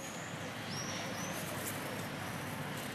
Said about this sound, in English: Here's one idea, this super block. It's downtown, but you can hear birds singing. Decibel level, just 42.